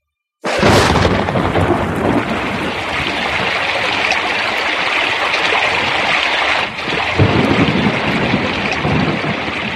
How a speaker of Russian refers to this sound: Ну как? Хороша моя буря? Нравится она вам? А мне не нравится. Я боюсь ее до смерти, не люблю бурь